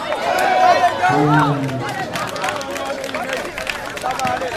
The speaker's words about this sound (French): À l'ombre des arbres, elle soutient les équipes de filles, mises à l'honneur pour la journée des femmes, applaudies pour l'occasion par leurs frères et leurs pères, massés au bord du terrain.